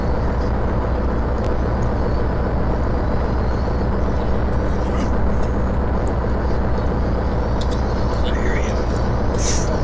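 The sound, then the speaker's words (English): A pickup truck's engine in a video game drones steadily as it drives, a loud, continuous low rumble with a few faint higher clicks and whines along the way. “And this is easy to do in the pickup truck, man.”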